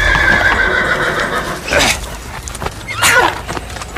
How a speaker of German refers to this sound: Immer wieder sausten die Hufe des Rappen auf ihn herunter.